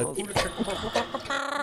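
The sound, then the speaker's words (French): A person imitates a hen clucking: a few short, choppy vocal bursts, then a quick run of pulsing, nasal clucks at the end, fairly loud. “Caquette la poule.”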